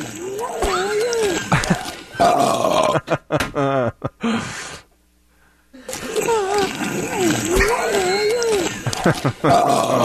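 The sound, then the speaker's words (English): Strained, whimpering vocal noises from a man build up, with rising pitched squeaks, before a brief pause and more straining sounds, like him forcing out a burp. “He had to play like the last 3 seconds right before the burp. It's almost like a whimper.”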